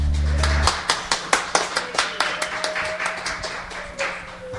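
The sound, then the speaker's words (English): A steady run of sharp hand claps, roughly four or five per second, given as a cheer for the Lord, after a short low hum at the start, with no one talking. “I'll give the Lord a cheer.”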